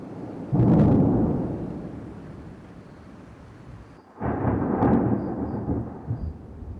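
A heavy thunderstorm in Zimbabwe with two heavy rolls of thunder, one early and one a few seconds later, each rumbling loudly over a steady hiss of falling rain. No one speaks.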